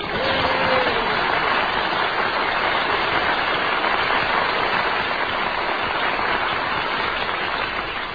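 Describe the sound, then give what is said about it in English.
A studio audience applauds for a singer after he asks Mr. Jolson for applause: a dense, steady wash of clapping that holds at an even loudness for about eight seconds, with no voices over it. “Jolson, who has charge of the applause around here? Well, I do, I guess. Well, could I have some?”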